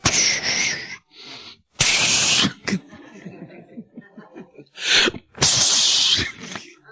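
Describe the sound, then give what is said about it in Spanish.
A person makes several breathy, hissing bursts like a snake, two long and two short, separated by soft chuckles and quiet breathing. “Pero el serpiente, mira, el serpiente usa su lengua y siempre viene con su lengua así el serpiente.”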